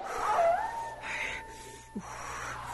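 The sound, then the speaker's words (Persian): A wolf howls, a long, steady, wavering tone that rises slightly and then holds, heard alone against faint background hiss, with a small thump near the end, as darkness falls over snow-covered surroundings. “گوش کن، میشنوی؟ صدای گرگ است.”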